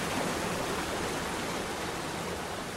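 rain beginning to fall

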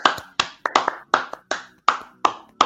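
hand clapping applause

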